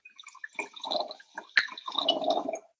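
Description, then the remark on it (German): Wine glugs and splashes into a glass in a short, uneven stream, with bubbly gurgling bursts and a brief bright clink partway through. No one speaks. “Und deshalb würde ich sagen, dass wir da jetzt mal direkt das Glas füllen und den Wein probieren.”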